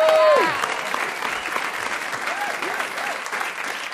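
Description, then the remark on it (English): An audience claps in a steady, dense wash of applause that holds for about four seconds, with a brief voice or cheer rising over it at the very start. “You're applauding the Iranians enriching uranium.”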